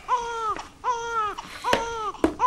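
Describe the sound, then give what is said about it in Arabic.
Loud crying in a series of drawn-out wailing sobs, about four bursts in quick succession with short catches of breath between them, and no talking. “ألي أجل هذا يبكي”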